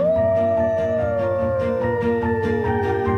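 wolves howling

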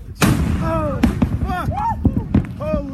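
volcanic eruption explosion boom

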